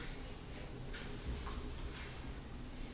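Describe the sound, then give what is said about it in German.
A clock ticks steadily and softly as a timer while someone thinks over a quiz answer, each tick a faint, evenly spaced click over a low background hiss, with no voices present. “Nee, die Uhr ticken. Wenn du überlegst.”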